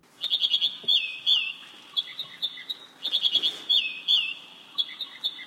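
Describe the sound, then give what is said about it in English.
An American Dipper, a small gray bird also known as ouzel, sings alone, clear: two bouts of rapid, repeated high chirps mixed with bright whistled slurs and trills, each bout lasting a couple of seconds. “our conversation is focused on a small gray bird, the American Dipper, also known as ouzel.”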